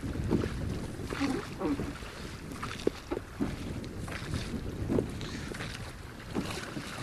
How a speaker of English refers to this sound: Well, this boat we're in is a large boat, blue in colour, and it's being rowed out by a man out to the island.